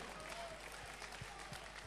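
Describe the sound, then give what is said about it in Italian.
A church audience applauds together in praise of Jesus, a dense, steady wash of many hands clapping at an even level throughout, with a faint murmur of voices mixed in. “Vogliamo lodare e applaudire il nostro Signore Gesù.”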